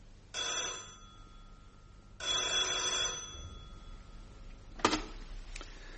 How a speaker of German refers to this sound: Und die Geschichte begann, als abends bei mir das Telefon klingelte.